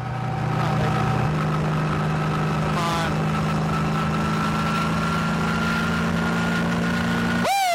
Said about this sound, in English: In the end, I didn't hit the car's top speed, 137 miles an hour, but I did go the fastest I've ever gone, about 120. It wasn't Jeff Gordon fast, but you know what? I'm not sure I'd want it to be.